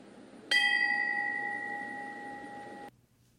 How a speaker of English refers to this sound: I was on Capitol Hill this morning at 8:46 a.m. as the bells tolled and a moment of silence was observed for the attack on the United States 18 years ago.